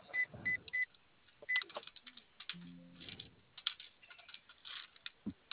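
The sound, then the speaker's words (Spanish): Keypad buttons are pressed to enter the code 1414, each press giving a short electronic beep, four in an uneven sequence, followed by soft clicks, handling noise and a brief low hum. “A ver, ponle el código 1414, ¿qué color prende el teclado?”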